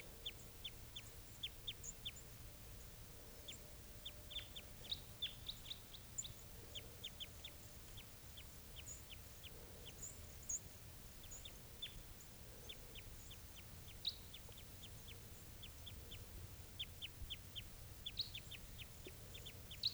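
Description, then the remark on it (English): An adult type 2 wild bird with a right-crossing bill gives short, sharp, high-pitched chip notes, repeated irregularly in quick bursts throughout, over a low, steady background rumble. No one speaks. “Here it is, wild bird.”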